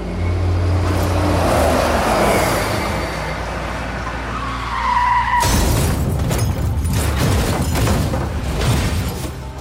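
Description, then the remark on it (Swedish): A tour bus engine rumbles on a country road in Sweden early in the morning in 1986, its tyres screeching in a skid as the driver loses control, then a sudden loud crash as it goes into a ditch, followed by several seconds of crunching, rattling debris. No one speaks. “Bussen börjar kränga. Chauffören tappar kontrollen och kraschar ner i ett dike.”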